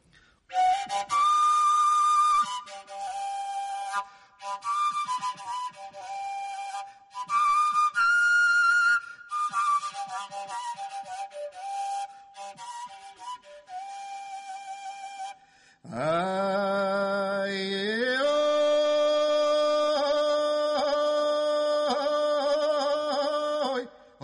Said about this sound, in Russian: Огромные, огромные такие дудки, вот, научились они их делать. Вот, а я использую этот инструмент для своей такой, как бы, песни, которая представляет внутренний мир мужчины, живущего на этом свете.